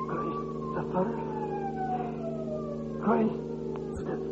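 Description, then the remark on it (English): The siren of an ambulance on a New York street, carrying a man hit by a taxicab, wails in a long, slowly falling tone over a steady engine-like hum, with a couple of brief louder bumps partway through. “And afterwards, in the ambulance, with the intern and the traffic policeman.”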